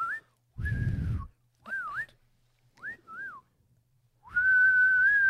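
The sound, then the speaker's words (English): A person whistles to call a horse: a short rising note, a long steady tone, then several quick swooping notes and a final sustained whistle, fairly loud, with breathy rumble at times. “Oh, we can do the whistle.”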